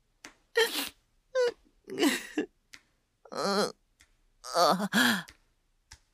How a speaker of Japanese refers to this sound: 泣くなって言われても、だってわけわかんねえもん。うるさい。俺だって泣きたくて泣いてるわけじゃない。